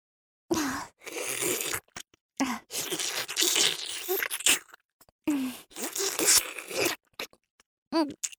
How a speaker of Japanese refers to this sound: 唾液のやばい音に注目。まずは、ずるずる唾液がおちんちんを這い回る。